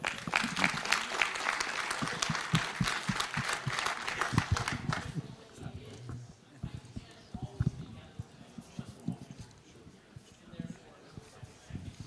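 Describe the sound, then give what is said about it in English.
An audience at a talk claps loudly for about five seconds, a dense crackle of many hands that then dies away, leaving quieter scattered sounds and faint murmuring. “Another warm applause, please.”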